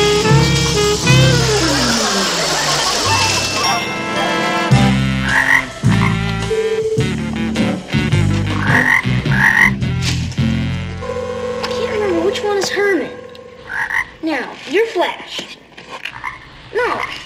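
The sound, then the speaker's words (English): A loud, dense chorus of frogs croaking at a pond, many overlapping calls repeating in quick, uneven bursts, continuing throughout. “We're gonna get one frog, not drain the pond dry.”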